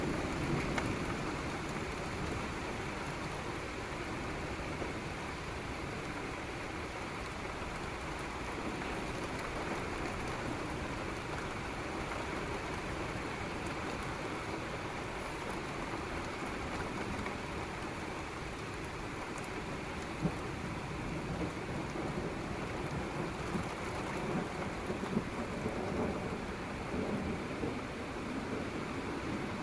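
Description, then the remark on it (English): Steady, heavy rain hisses continuously throughout, with a deep low rumble of thunder rolling underneath. No one speaks, and the storm stays at a constant, enveloping level the whole time. “Those really wicked sounded thunders are coming from this one we're pointing at.”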